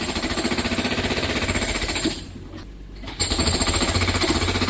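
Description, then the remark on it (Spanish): The drill of a Viacqua company machine pounds pavement in a fast, continuous rattle, loud, briefly easing off for about a second before resuming at full force, in the morning in the Pexegón neighbourhood of central Santiago. “Es el taladro de una de las máquinas de la empresa Viacqua esta misma mañana en este barrio que quedan debajo de Ensinanza y entre Castrón de Euro y la compañía de María, y que lleva meses sufriendo constantes roturas de tuberías que les dejan”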